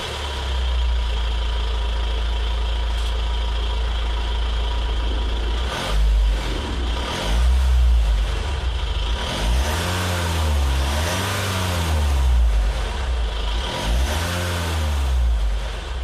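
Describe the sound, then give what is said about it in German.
A diesel car engine idles with a steady low rumble, then revs up several times in swelling, rising-and-falling bursts, loud, with no one speaking. “Ja, eindeutig ein Dieselmotor.”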